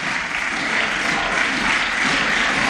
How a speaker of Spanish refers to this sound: Aplausos, como escuchan, junto con los gritos de vergoña, vergoña, por parte de los diputados de PSPB y Compromís.